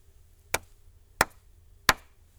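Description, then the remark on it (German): Three sharp hand claps in a steady, evenly spaced rhythm, clapped as a short rhythm sequence for listeners to memorize and clap back, each crisp and bright with a quick decay, over a faint low hum and no talking. “Merken Sie sich eine kurze Rhythmusfolge, die ich mit meinen Händen klatschen werde.”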